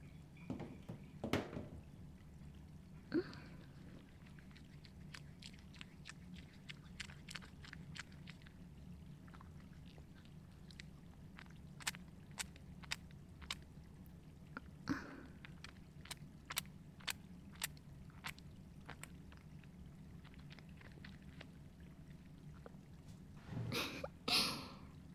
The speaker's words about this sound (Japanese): お体、洗っていきますね。少々お待ちください。今、ボディーソープを泡立てますから。